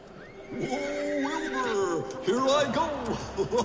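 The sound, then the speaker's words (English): A horse whinnies loudly in the TriStar Pictures film studio logo as the horse runs, a long wavering neigh that rises and falls, followed by a second shorter burst, with faint hoof clatter beneath. “I could only say, oh boy, when the opening scene was this, the TriStar Picture logo, the horse running to do a catapult, and this is what you hear.”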